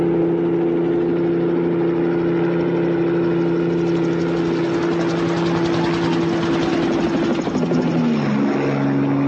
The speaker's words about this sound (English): I started hearing the sounds of a helicopter, and it came closer and closer, and the sound got louder and louder